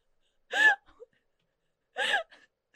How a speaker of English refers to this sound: Sorry, you were screaming, so I started screaming. I got pumped.